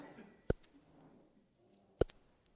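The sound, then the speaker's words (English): A tiny handbell, a little smaller than a shot glass, from the Three Rivers Ringers rings twice, about a second and a half apart. Each bright, high-pitched ding lingers and fades, with no talking. “So what a range that are here among the bells and chimes of the Three Rivers Ringers.”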